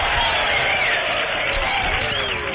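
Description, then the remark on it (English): A large crowd of factory employees who just finished an 8-hour shift roars and cheers steadily outdoors, a dense wall of overlapping voices that stays loud and unbroken throughout, with a muffled, narrow tone like an old broadcast recording. “A big crowd of employees, ladies and gentlemen, who have just finished an 8-hour shift are gathered for this special program.”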